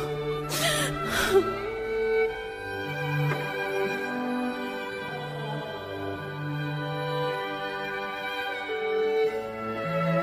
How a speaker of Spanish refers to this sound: Ella, al ver al fruto de su vientre, no soportó el dolor y no pudo contener su llanto.